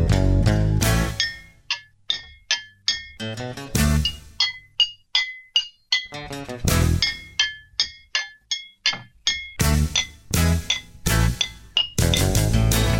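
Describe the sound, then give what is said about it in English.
Mason jars struck like a percussion instrument, ringing out bright, pitched glassy clinks in a quick rhythmic pattern, broken up by louder bursts of fuller band-like sound. “Would you welcome … on Mason Jars?”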